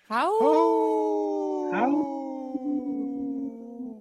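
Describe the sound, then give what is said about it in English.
Several people howl together like wolves, their voices swooping upward and then holding long, slowly sinking notes in loose harmony, loud, a human imitation of a wolf chorus. “Wow, that was a good howl. Kind of three-way harmony.”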